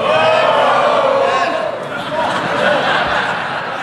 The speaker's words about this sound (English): I love the House of Commons. I love the shouting. I love the harumphing.